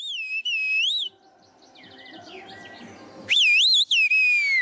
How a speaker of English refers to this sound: in the small mountain village of Kaskoy, people use bird-like whistles to communicate across steep hills.